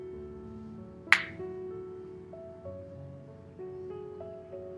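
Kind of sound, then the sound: human body sound, finger snap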